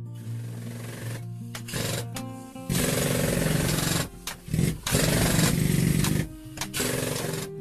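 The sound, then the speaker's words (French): A pneumatic hammer weighing over 7 kg, used by a miner to cut coal in a narrow coal mine face, rattles loudly in several hard, sustained bursts separated by brief pauses, with a low mechanical hum running underneath and no voices. “Le mineur y taillait en solitaire pendant de longues journées avec un marteau pneumatique de plus de 7 kg, presque sans relâche.”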